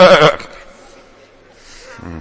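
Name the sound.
goats bleating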